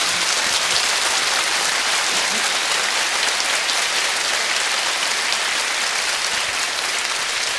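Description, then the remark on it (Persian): A large crowd at a religious birthday celebration for the son of Umm al-Mu'minin claps steadily and densely for several seconds, a loud continuous wash of many hands with no voices on top. “هر چقدر عشق میکنه با این حاجتی که ایشالله دست جمع بگیریم، این کفو بزنه دل ام المؤمنین ایشالله.”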